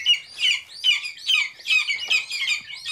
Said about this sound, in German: Piep, piep, piep. Also ich muss gestehen, ich wusste nicht, dass Adlerküken auch ganz niedlich sein können. Wobei ich muss genauer sagen, es sind Schreiadlerküken.